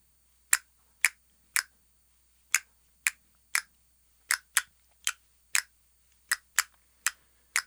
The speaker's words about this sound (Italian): Toc, toc, chi bussa alla mia porta? Son le nacchere a bussare. Le faccio entrare e le ascolto un po'.